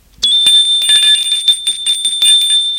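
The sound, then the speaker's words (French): A doorbell at a front door rings loudly and continuously for almost three seconds, a bright metallic ring with a fast rattling clatter from the striker, with no voices. “L'on sonne à la porte d'entrée.”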